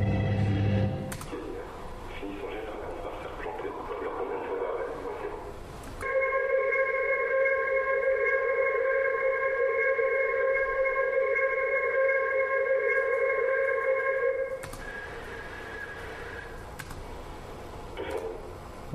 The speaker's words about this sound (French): Mais au bout d'un moment on laisse filer, on rajoute plus rien et du coup ça commence à ressembler vraiment à Larsen.